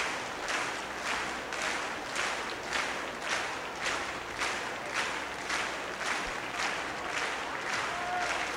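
A large audience claps in unison to call the soloist, Andre Watts, and probably Mr. Reinsdorf back, a steady rhythmic beat of about two claps per second carrying through a dense wash of applause at an even, fairly loud level.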